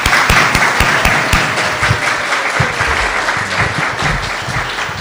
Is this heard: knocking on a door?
no